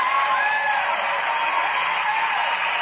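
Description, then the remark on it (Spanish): A steady wash of applause for a radio program's producer fills the whole moment, dense and fairly loud, with a faint whistle or whoop rising briefly above the clapping. “¿Cómo ven a mi amigo Henry? Un aplauso,”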